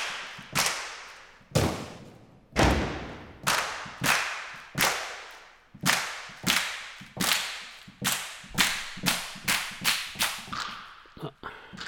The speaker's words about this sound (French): Alors là, c'est les claquements de mains.